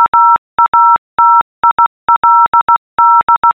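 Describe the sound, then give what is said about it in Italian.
Loud, clean electronic beeps tap out a person's name in Morse code, quick dots mixed with longer dashes in several short groups separated by brief pauses. No voices are heard. “questo è il mio nome in codice Morse.”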